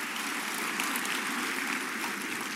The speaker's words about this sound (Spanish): Alguien diga un aplauso al Señor, ya. Gracias, Señor.